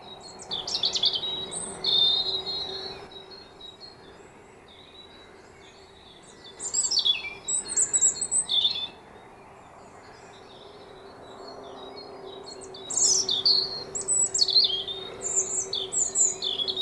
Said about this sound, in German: Was kann man denn da erkennen oder was macht den Rotkehlchengesang aus? Also das ist eben auch wunderschön melodisch